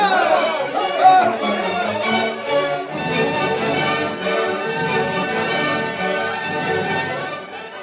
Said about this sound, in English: Angry crowd marched to courthouse.